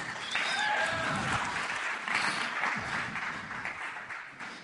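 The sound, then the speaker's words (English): An audience claps steadily for about five seconds, a dense, even wash of many hands with no voices over it, easing off slightly toward the end, welcoming a guest speaker. “You can give him a clap as well.”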